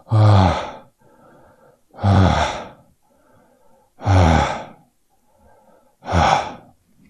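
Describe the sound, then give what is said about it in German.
Four deep, audible breaths during a relaxation exercise done seated on a chair with the body let fall downward, loud, each a broad airy rush about two seconds apart, with softer inhales in the quiet gaps between them, steady and unhurried. “Und ihr könnt das auch noch mit dem Atmen verbinden.”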